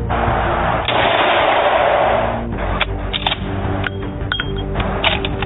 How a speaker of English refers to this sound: The situation escalated as the brother started shooting from the porch at the creatures chattering on the hill.